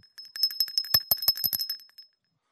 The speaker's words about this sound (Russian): Если мы к Нему приходим с покаянием, мы просим прощения, и у нас получается вот такой благословенный звон.